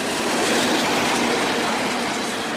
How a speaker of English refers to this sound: And that's about as loud as if you were standing next to a train track and a train went by. That's about 108 decibels.